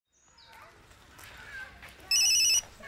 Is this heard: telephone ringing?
yes